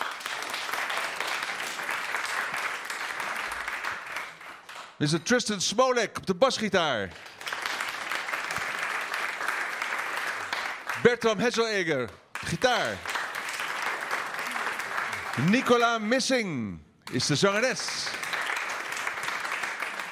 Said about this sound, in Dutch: Ja, en we hebben in deze vierde aflevering hebben wij nog één groep op het podium staan. Geef een hartelijk applaus voor slagwerker